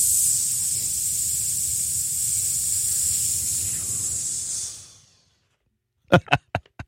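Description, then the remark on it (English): A steady, loud hiss of air escaping from a deflating balloon runs for about five seconds, then tapers off into silence, followed by four quick, sharp taps. “That's all the air coming out of Wolfgang's balloon.”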